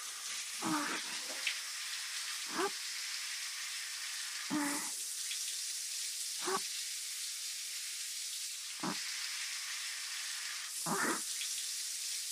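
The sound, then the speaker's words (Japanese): Steady running water from a shower rinsing soap suds off a right arm and from between the fingers, with soft splashy swishes breaking through about every two seconds. No voices. “右腕の泡をきれいに流して、指の間に残ったのもきれいきれいに。”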